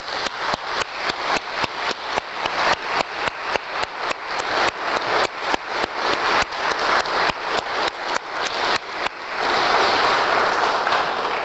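Steady, rhythmic clapping at a brisk even beat for about nine seconds, then dissolving into a loud, continuous burst of applause from a crowd. No one speaks.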